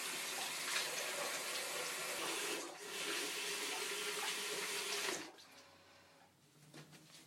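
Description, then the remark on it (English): Hot water runs from a tap in a strong, steady rushing hiss, briefly dipping partway through, then cuts off after about five seconds, leaving faint quiet dripping and small sounds. No one speaks. “And now, I had the water really hot before.”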